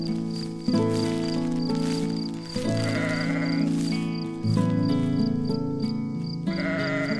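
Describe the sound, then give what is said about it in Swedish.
A sheep bleats loudly outside a tent in the dark, wanting to come in, in a few long, wavering calls that follow one another almost without pause, with no talking. “Det är bara fåret som vill komma in, säger Bubblan.”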